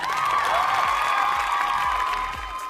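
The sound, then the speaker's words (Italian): A burst of crowd applause played as a sound effect, with cheering voices, loud and steady for a few seconds before easing slightly at the end, with no one talking over it. “Mi facciamo partire l'applauso, io lo faccio risentire praticamente tutti i giorni perché è talmente lineare il ragionamento.”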